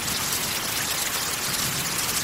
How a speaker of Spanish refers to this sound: Escuchó una nueva y furiosa embestida de la lluvia acercándose por el lago y estremeciéndose, se refugió en la entrada.